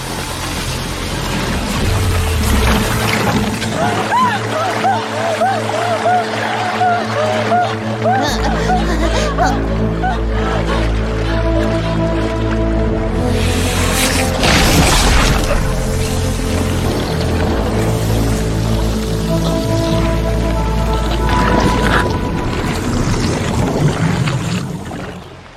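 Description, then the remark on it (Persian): A boat moves steadily across water, its low droning rumble and sloshing wash continuous and loud throughout, with people's voices mixed in over the noise. “یه قایق؟”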